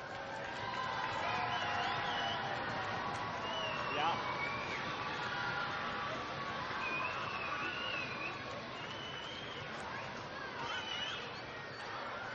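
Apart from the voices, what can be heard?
audience applause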